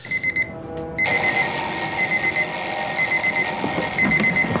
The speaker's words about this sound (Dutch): Je ziet hier een, twee gasten die worden wakker. Gewekt door de wekker, want ze gaan naar Rio.